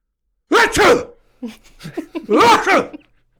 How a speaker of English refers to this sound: I will tell you that I have a sneeze that can be extremely disruptive, as my own wife has told me many a time. And it goes a little something like this.